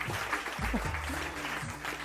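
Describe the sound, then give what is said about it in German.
Steady applause from the audience at the Weserstrand talk for guest Professor Dr. Antje Boetius, a dense crackle of many hands clapping at once, with faint murmuring voices underneath. “Jetzt ist der Applaus ja doch ein bisschen lauter.”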